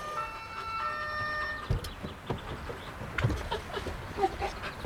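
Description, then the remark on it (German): A police siren wails with a steady, high tone for about a second and a half, then cuts off, leaving scattered thumps and clattering noises with no one talking. “Oh nein. Die Polizei,”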